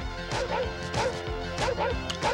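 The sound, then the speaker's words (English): A dog barks about four times in sharp, evenly spaced bursts, fairly loud, over a dense, steady musical backdrop in a trailer for the film National Lampoon's Vacation. “why is there a dog barking?”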